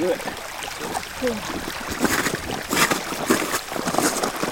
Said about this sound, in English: Is that a rushing river? A waterfall? Yeah, kind of. It's a sound that I recorded standing on a massive piece of ice. It's like 2 miles thick in the thickest part. It's the Greenland Ice Sheet.